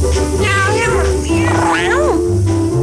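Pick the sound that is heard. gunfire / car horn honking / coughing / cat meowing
cat meowing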